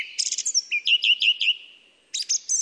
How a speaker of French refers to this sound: C'est la fin de la nuit, et le premier oiseau qui chante, c'est la grive musicienne.